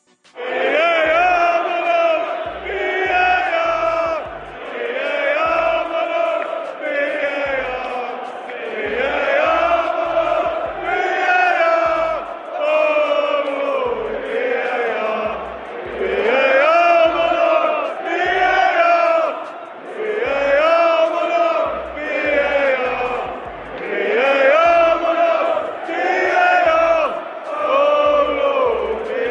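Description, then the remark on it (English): A large crowd of Tottenham Hotspur football fans chants in unison about VAR, a loud, sustained sung refrain repeating in rhythmic phrases, with deep thumps of drums or stamping marking the beat throughout. “That was Tottenham Hotspur fans singing their love and appreciation for VAR, which once again was at the center of attention when they met”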